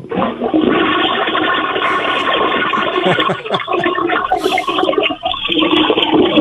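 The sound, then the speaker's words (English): A toilet flushes loudly, a sustained rushing, gurgling surge of water that fills the whole clip with no voices over it. “a lot of water going through the system there.”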